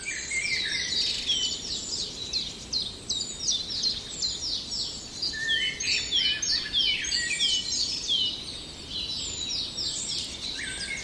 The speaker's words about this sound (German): Und dann etwas zarter. Hören wir den wunderschönen, perlenden Gesang vom Rotkehlchen.